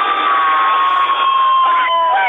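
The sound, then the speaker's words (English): A crowd of about 8,000 at Leeds Festival, in a field in the north of England under grey skies, cheers and roars in one dense, unbroken wall of noise for the whole clip, with thin whistle-like tones riding on top. The sound is loud, steady and somewhat tinny. “I'm at Leeds Festival. Make some noise.”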